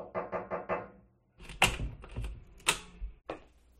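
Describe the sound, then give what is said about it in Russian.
Four quick, evenly spaced knocks on an apartment door by movers arriving on moving day, followed after a short pause by louder, heavier thumps and clattering, as if the door is being handled. No one speaks. “Не успели напиться чаю, как в квартиру постучались.”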